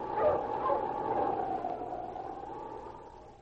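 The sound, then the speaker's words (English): King, Sergeant Preston's wonder dog, barks in recognition at a friend approaching the wooden bridge over the Manalek River in the Yukon: one drawn-out, wavering vocalization lasting a few seconds, fairly loud and alone with no talking, fading slightly at the end. “As he saw a friend coming from the opposite direction, King barked in recognition, then turned to the mountain.”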